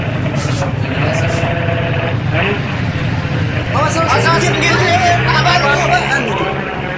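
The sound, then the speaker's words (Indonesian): A motorbike roars past in a village during a communal clean-up, its loud engine rising and falling over a steady street din, with indistinct voices and general chatter in the background. “Naik motor begitu kan mengganggu orang lain.”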